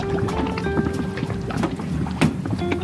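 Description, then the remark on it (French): A boat's motor drones steadily as the boat sets off across the sea in the Calanques National Park, Bouches-du-Rhône, France, with gusts of wind buffeting the microphone and occasional splashes and knocks; no one speaks. “Allez, le bateau, on y va.”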